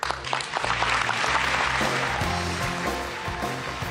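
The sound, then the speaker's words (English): A large gathering of delegates at the UN applauds 16-year-old Malala Yousafzai for speaking up for girls' education, a dense, steady wash of many hands clapping that holds at an even loudness throughout, with no voices on top. “Delegates at the UN applauding 16-year-old Malala Yousafzai for speaking up for girls' education.”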